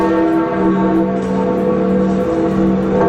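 Church bells peal steadily and loudly, their sustained overlapping tones ringing together in a dense, continuous wash with no pauses and no voices, as the coffin with the Pope's body is carried out of St. Peter's Basilica in Rome after his funeral.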